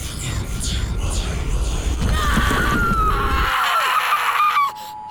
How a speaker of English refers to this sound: This is the part where I scream.